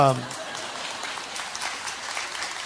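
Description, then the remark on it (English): An audience applauds with a steady, dense patter of clapping that holds at moderate loudness, starting just as a brief voice fragment cuts off. “It was copy applause, okay?”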